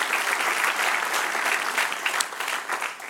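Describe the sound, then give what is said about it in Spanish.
A crowd claps steadily for about three seconds, applauding the one who is King, a dense, even wash of many hands with no voices standing out above it. “Denle un aplauso al que es rey.”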